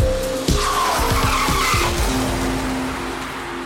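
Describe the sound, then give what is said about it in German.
A car, driven by a woman fleeing investigators, roars past at speed with tires squealing in a long skid, engine noise loud throughout, a sharp jolt near the start, and no voices. “Bleiben Sie stehen und schalten Sie den Motor aus”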